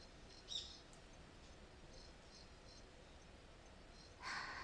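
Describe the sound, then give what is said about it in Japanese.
Quiet forest ambience with birds and insects calling, a soft, steady hiss broken by a few faint, scattered bird chirps and a brief, slightly louder burst near the end. No one speaks. “ほら、よく聞いてみてください。鳥や虫の声が心地いいでしょう？”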